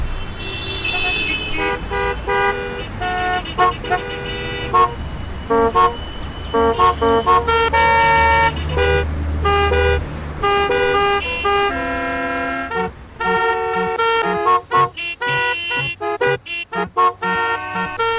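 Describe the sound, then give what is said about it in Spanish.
A chorus of car horns blares in busy traffic, overlapping toots and long honks of different pitches sounding loud, with the steady rumble of engines underneath and no talking. “Dirige el tránsito como si fuera una orquesta.”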